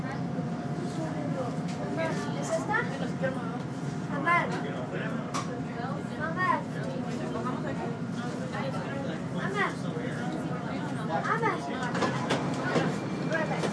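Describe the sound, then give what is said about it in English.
Steady low rumble of a Chicago CTA Orange Line elevated commuter train rolling along its rails toward Roosevelt Station, a continuous mechanical drone with faint squeals, while several people talk indistinctly in the background throughout. “Thank you for riding the CTA Orange Line.”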